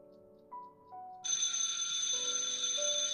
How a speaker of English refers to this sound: No one ever ringed that phone. It'll stop in a moment. Any minute now. I think you should answer. If I can remember how to use it.